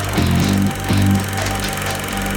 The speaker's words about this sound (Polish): Jesteśmy w samym centrum Łodzi, to dokładnie róg ulicy Radwańskiej i Wulczańskiej. Jest głośno, to będzie można właśnie teraz usłyszeć, no bo życie w pełni.